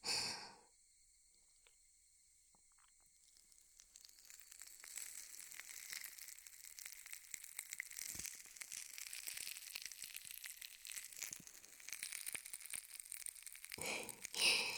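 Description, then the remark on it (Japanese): Dense, fizzy crackling and popping of a carbonated massage gel being applied to the earlobes during an ear massage builds up after a few quiet seconds and keeps going steadily, a soft carbonated sizzle with tiny bursts, with no voices over it. “ちょっとパチパチしますので気をつけてくださいね。”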